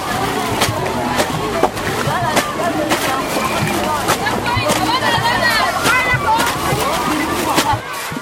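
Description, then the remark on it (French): A busy riverside scene at Wango, in the 7th arrondissement of Bangui, at 1 pm on a hot, sunny day: many voices chatter and shout in the background while water splashes and sloshes repeatedly, as a large crowd of men, women and children swims, bathes and washes clothes and plates in the river. “Ils viennent juste pour nager ou pour se baigner.”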